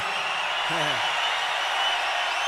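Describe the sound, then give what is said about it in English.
A large crowd at a rock concert in Detroit, Michigan roars and cheers loudly in a steady, sustained wall of noise, with a brief voice rising out of it near the start. “This crowd right here is possibly one of the best crowds in the whole world for rock music, period.”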